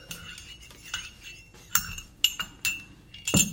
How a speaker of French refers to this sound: Ah, la bonne soucoupe. Moi, je ne me jette pas sur la nourriture comme une pieuvre. Je déguste, moi. Je touille.